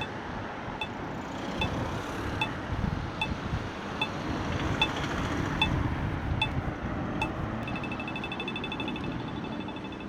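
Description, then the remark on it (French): A pedestrian crossing signal at a street intersection in Brussels gives slow, evenly spaced high-pitched beeps, then switches to a rapid ticking near the end, over steady street traffic and wind noise. “À chaque intersection, ce petit bip, bip, est-ce qu'il vous interpelle?”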